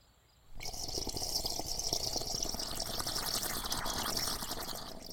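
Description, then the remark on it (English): Tea is poured into a cup in one steady stream that starts abruptly after a short silence and runs for about four and a half seconds, with no voices. “And you made tea.”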